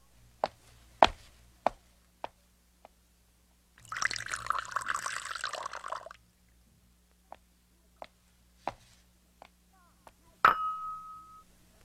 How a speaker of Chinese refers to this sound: 哎，你这是什么态度？做爸爸的要喝水，你就把茶杯重重的往桌上一摆，你在跟谁怄气呀？ 没有啊，我拿杯子不小心，所以放重了嘛。